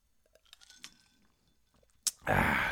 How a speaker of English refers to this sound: Well, it's such a great song that it makes me want to take another sip of my cocktail here, you know, to tell you the truth.